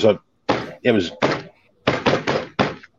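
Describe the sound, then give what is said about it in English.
About eight dull knocks on a wooden workbench, struck in an uneven, irregular pattern to imitate odd hammering, each thud short and solid with no ringing after it. “we started hearing like a hammering. I'm going to do this on my workbench and it's going to shake, hopefully not shake my camera, but you'll hear it was odd.”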